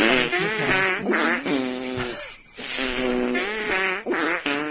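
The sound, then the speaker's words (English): A string of buzzy, raspy fart noises pitched into a bouncy holiday jingle bell melody, note after note in quick rhythm with a brief pause midway, loud with no talking. “And now, here in honor of the season, is a farting jingle bell.”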